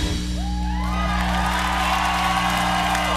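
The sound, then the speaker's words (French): Recorded crowd applause and cheering played from the studio control room during a La Première radio show, with rising whoops and shouts over a dense, steady wash of clapping that fills the whole clip. “en régie, les applaudissements.”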